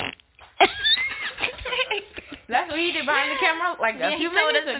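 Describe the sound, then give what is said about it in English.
Someone blows a series of buzzy, sputtering fart noises with their mouth, loud and drawn out, mixed with other voiced sounds and no clear words. “And then what I hate is when people fart and it smells like, I don't know, like, to describe it.”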